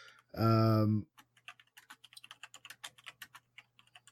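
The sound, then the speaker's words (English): A brief loud tone sounds, then rapid, irregular clicking of typing on a computer keyboard continues for several seconds, fairly crisp, with a faint steady hum underneath. “Are you done typing?”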